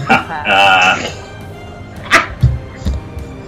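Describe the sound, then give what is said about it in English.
A person imitates a sheep with a wavering, nasal bleat lasting about half a second, followed by a few short vocal noises and soft thumps. “who is currently sheep.”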